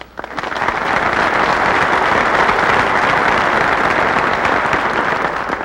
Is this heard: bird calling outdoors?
no